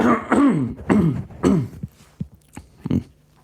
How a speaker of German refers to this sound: Ich habe irgendwie einen Frosch im Hals. Ich muss mich nochmal räuspern.